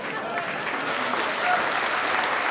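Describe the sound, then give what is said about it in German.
Sustained applause from a large audience welcoming host Edmund Stoiber, former Bavarian Minister-President, onto the stage, a dense steady wash of many hands clapping at an even, loud level throughout, swelling slightly toward the end. “Begrüßen Sie mit einem dosenden Applaus Ihren Gastgeber.”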